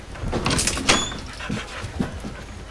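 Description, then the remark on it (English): A dog's soft paws pad across the floor in a few quiet, unevenly spaced steps as it follows its master, with a brief rustle and squeak near the start. “The dog pads after its master.”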